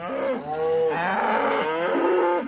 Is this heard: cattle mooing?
yes